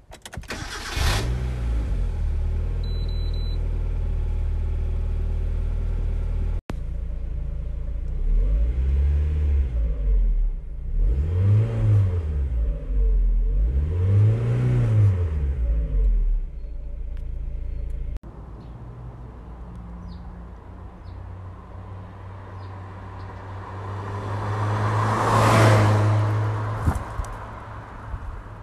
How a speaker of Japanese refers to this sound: 身近なもので心地いい音を考えた時、車のエンジン音はどうなんちゃうと思ったので、父の車である NA ロードスターのエンジン音を取っていきたいと思います。